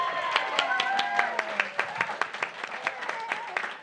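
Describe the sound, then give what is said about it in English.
Audience applause for a comedy performer being introduced, with steady, sharp claps that thin toward the end, while voices talk and call out underneath at moderate volume. “Yes, give her a hand, a round of applause.”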